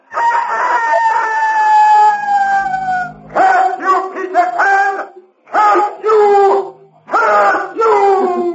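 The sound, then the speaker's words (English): A voice imitates a rooster's crow as Peter Pan's taunting victory cry from the shore: a long, high, wavering opening call followed by three more loud, bending crows with short pauses between them. “And from the shore came Peter Pan's taunting cry of victory.”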